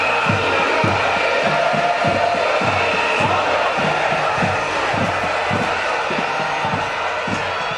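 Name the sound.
large crowd cheering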